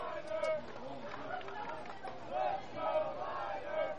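A baseball stadium crowd in Bristol, the home crowd of the Fly Boys, makes a steady roar of chatter and cheering, with swelling bursts of shouts rising and falling throughout, without any single voice standing out.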